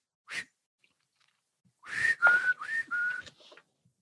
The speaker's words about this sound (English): Hey, it's bad luck to whistle on deck. A challenge to the wind herself.